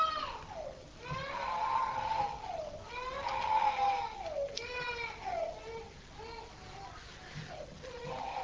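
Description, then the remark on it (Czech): A small child cries in long, wavering wails that rise and fall, several sobbing bursts in a row, steady in loudness, during a church gathering. “To nevadí, že tady máme pláč, já jsem to myslím, že už někde říkal, že ve shromáždění, kde nepláčou děti, by měli plakat dospělí.”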